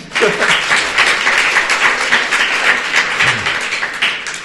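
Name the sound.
audience applause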